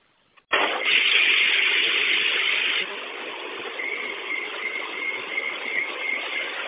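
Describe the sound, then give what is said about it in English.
A bus kneels as its air suspension lowers: a sudden, loud rush of hissing air for about two seconds, then a quieter steady hiss over engine rumble with a faint whine. “Because I don't really drop here, but I hear the bus when I knee up, it goes down.”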